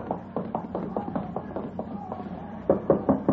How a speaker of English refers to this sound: Yeah, around back of the stand. You knock on the door.